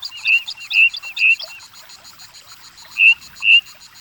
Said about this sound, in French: Oh, écoute, écoute. Un merle flûte.